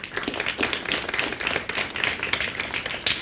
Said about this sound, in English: So I just wanted to give a round of applause for our speaker today